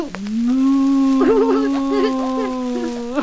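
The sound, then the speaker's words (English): A child's voice imitates a cow with one long, drawn-out moo lasting about three seconds. It rises at the start, wavers slightly in the middle, and sounds fairly loud. “What does a cow go?”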